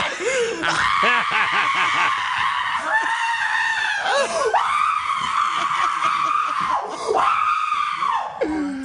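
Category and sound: human body sound, person screaming in excitement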